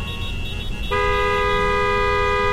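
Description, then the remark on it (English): A car horn blares in one long, sustained honk from a man in the car behind, growing louder partway through, over a low rumble of engine and traffic noise. “The group of them moved past my car to the man honking behind me.”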